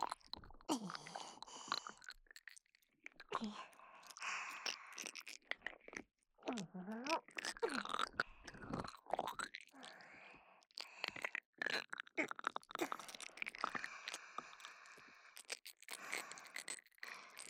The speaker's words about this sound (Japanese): 悪いものは全部食べちゃうよ。もぐもぐもぐもぐ。